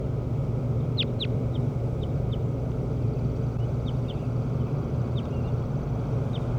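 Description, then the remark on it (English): Short, high chirps from bird number 17, responding during a recording session, repeat irregularly, with two sharper calls near the start and fainter ones after, over a steady low rumble like traffic or an engine. “And 17 responded.”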